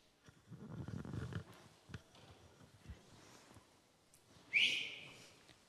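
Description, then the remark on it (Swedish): A teacher blows a single sharp, high-pitched whistle blast that cuts in loudly near the end, calling the children to come and eat, standing out over a low, rumbling outdoor background with scattered faint knocks. “Det är läraren som visslar.”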